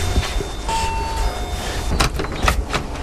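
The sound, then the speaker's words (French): A doorbell at a house's front entrance rings with a thin sustained tone, then the door is unlatched and opened with a couple of sharp clacks and rattles over a steady background hum. No one speaks. “Je vais sonner, il y a de la lumière.”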